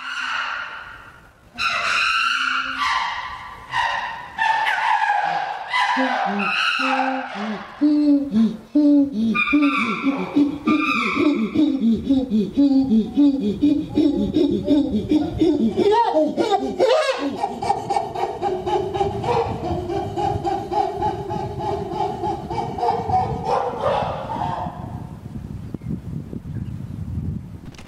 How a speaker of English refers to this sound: Oh, I love it. When it sounds like that, it sounds like barking. If you're there where the chimpanzees live, you'll hear that erupt from time to time. It's perfectly normal. It doesn't mean anything is wrong.